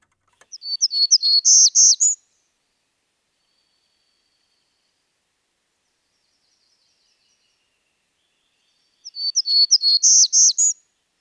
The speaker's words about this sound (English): The birds sound just a little bit more musical than some, so I'm going to go ahead and let you hear some.